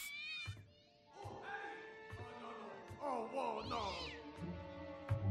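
Cats meow repeatedly in loud, drawn-out wavering cries, several calls overlapping and rising and falling in pitch, with no one talking.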